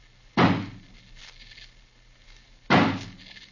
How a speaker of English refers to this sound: smash the door open for us. Stand back, please.